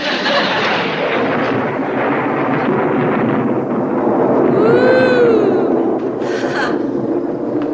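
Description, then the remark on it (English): Thunder rumbles loudly and continuously while it is raining, a dense rolling roar that fills the whole clip, with a brief rising-and-falling tonal whine cutting through near the middle. “Is that thunder I heard, or is it just our plumbing again?”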